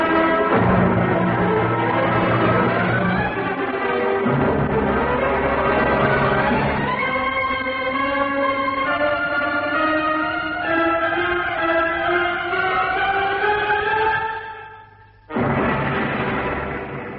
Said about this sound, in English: As far as Gideon Fell was concerned, that moment long ago when the bells rang out in Cagliostro Street was the true end of the case of the Hollow Man.